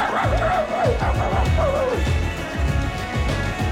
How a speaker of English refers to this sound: And then suddenly you hear a dog go, ow, ow, ow, ow, ow, ow, ow, ow, ow.